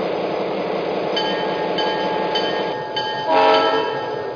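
Passenger train number 4 rumbles steadily into the Freeport stop, its wheels and engine filling the air, then the horn sounds a short, loud blast near the end.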